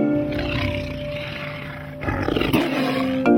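A panther roars, a deep, rumbling growl held for about three seconds that swells louder toward the end, with no voices.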